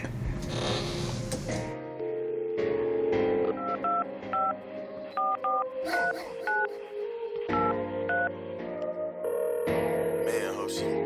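A rapid series of about ten telephone keypad beeps, each a short two-tone chirp, punched out in small irregular clusters over a loud, dense musical backing.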